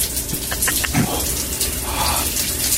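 Steady rushing water of a cold shower runs throughout, with a few brief splashy bursts near the start and a faint gasp-like sound mid-clip.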